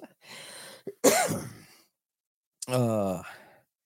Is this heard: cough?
yes